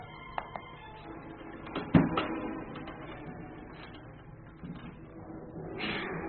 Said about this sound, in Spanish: Cerraré la puerta con llave para que el muchacho no vuelva a salirse.